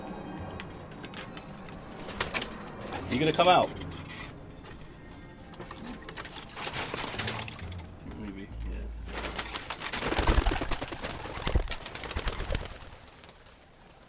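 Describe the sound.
Pigeons shuffle and flutter in a loft, with a brief burst of wing flapping and soft cooing, while a person talks quietly. The birds are hens kept by a pigeon fancier who breeds them.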